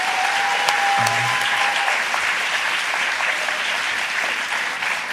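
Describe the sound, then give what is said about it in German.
A crowd applauds a performer being introduced, clapping steadily and loudly for several seconds, a dense wash of applause filling the space, with a brief faint tone and murmur briefly audible underneath. “Ein großer Applaus”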